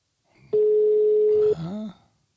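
A single steady telephone ringback tone sounds for about a second, clear, followed by a mother's brief voice answering on the line.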